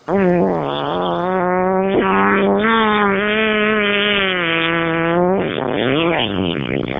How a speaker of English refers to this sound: farts on his show